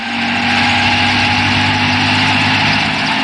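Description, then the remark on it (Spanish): A helicopter engine drones loudly and steadily as it descends slowly, a constant low mechanical hum layered with broad whooshing hiss and no change in pitch throughout, with no voices. “Poco a poco, a marcha lenta, Calimán acciona el helicóptero para descender”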